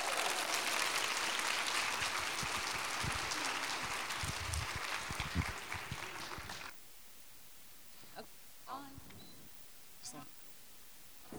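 An audience applauds in a dense, steady wash of clapping for about seven seconds, welcoming a speaker. It cuts off abruptly, leaving near quiet broken by a few faint scattered knocks and shuffles.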